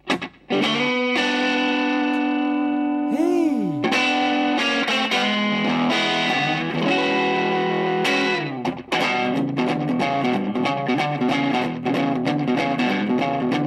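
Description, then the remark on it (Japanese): An electric guitar plays with a thick, effects-laden distorted tone, opening on sustained chords with a bending slide, then settling into steady strummed chords that ring loudly throughout, with no voices. “こうせっかくエレキギター持ってるんで弾き語りするとしたらやっぱこれだろう”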